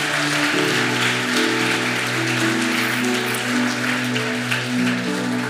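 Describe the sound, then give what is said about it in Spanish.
An audience gives God a loud round of applause, a dense wash of clapping that holds at an even loudness throughout, while sustained organ or keyboard chords play underneath. “Dale un fuerte aplauso a Dios por este corazón.”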